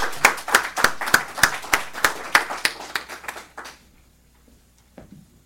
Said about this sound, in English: So one more round of applause for our volunteers.